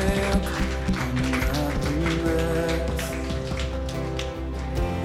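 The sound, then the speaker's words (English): A church audience at a service breaks into loud, dense applause, a steady crackle of many hands clapping over sustained musical chords, holding at an even level for about five seconds. “Hey, let's give him one loud applause.”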